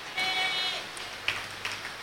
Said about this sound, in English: Or because it's raining, you can't hear. The rain is not going to stop now.